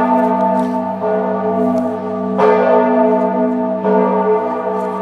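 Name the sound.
church bell ringing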